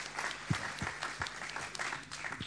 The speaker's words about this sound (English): Thank you, guys. Give these guys a clap. They've been brilliant. Thanks for that.